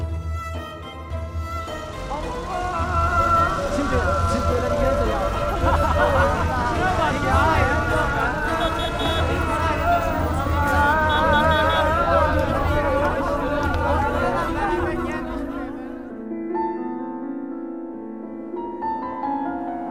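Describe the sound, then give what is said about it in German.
A busy Istanbul city ambience of crowd chatter, a steady dense murmur of many voices with background traffic-like rumble, loud and continuous before thinning out in the last few seconds. “Ich höre Istanbul, meine Augen geschlossen.”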